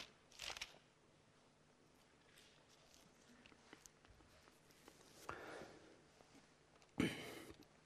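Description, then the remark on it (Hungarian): Pages of a Bible are turned to 2 Peter 1:3, flipping with a few soft, papery swishes at irregular intervals, quiet, the last rustle a little louder; no one speaks. “Lapozzunk oda.”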